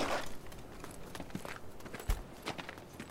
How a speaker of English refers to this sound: I heard footsteps as I moved into position.